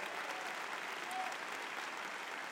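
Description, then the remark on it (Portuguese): A crowd applauds a group standing up in the audience, a dense wash of many hands clapping at once, sustained and fairly even throughout, with no speech over it. “Olha lá, uma salva de palmas para essa turma brilhante aí.”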